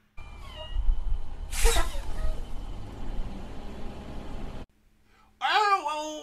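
An old truck's engine rumbles low and steady for a few seconds as it is pulled over, with a brief hissing burst early on, then cuts to quiet, followed by a loud, high, wavering meow-like cry.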